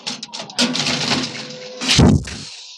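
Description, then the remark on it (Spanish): A torpedo is fired in a torpedo room: a sharp, hissing rush of air builds over a few seconds, then a heavy burst with a deep thump erupts and trails off into a fading hiss. “Se escucha en el interior de la cámara un breve estallido de aire, como el siniestro silbar de una víbora que ataca.”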